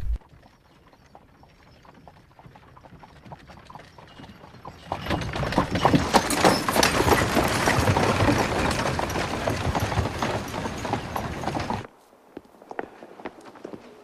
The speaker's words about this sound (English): Inspector Uhl looks deep in thought as horses pull his carriage into the Imperial Hunting Lodge.